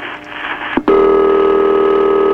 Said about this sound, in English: Oh, I like this ring. I can tell. I knew I'd like that ring. Very few phones have that kind of ring, still.